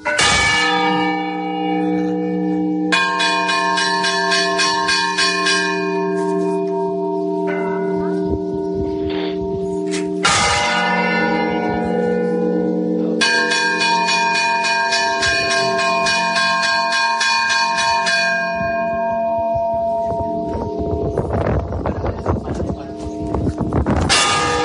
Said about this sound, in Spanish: 33 golpes son un hombre, 30 golpes lentos son una mujer fallecida. Pero fijaos además que si el que muere es un papa, también las campanas lo expresan de forma diferente.